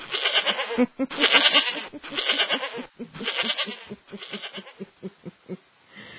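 A goat bleats loudly and repeatedly, a string of wavering, nasal cries in quick succession, the later ones shorter and more broken, with no voices around it.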